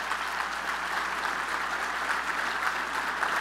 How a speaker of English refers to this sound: Wow, Dan Miller, Jen Hammond, always outstanding. A round of applause for these guys.